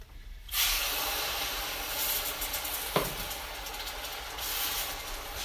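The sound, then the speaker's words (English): A sudden burst of loud, steady hissing and sizzling as a quarter cup of water hits a hot pan and boils violently, with a brief sharp pop partway through, continuing unbroken with no talking. “That, my friends, is what happens when water goes from slightly okay to boiling in like half a second.”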